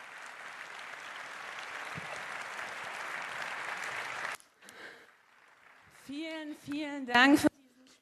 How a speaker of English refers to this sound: Many, many thanks for this amazing talk. Please give a huge applause.